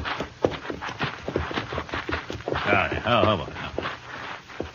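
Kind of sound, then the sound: animal, horse hooves clip-clopping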